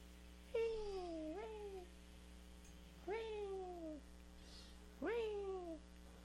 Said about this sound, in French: Ton chat, il a la voix la plus douce, qui existe.